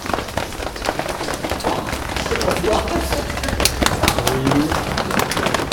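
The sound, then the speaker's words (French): Hands tap and rub the body to wake it up in an exercise, a quick, irregular stream of soft, dull slaps mixed with brushing, rubbing sounds. The patter stays fairly steady throughout. “On peut taper, frotter.”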